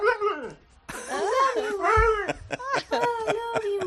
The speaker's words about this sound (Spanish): me dijo que trajera al perro que decía I love you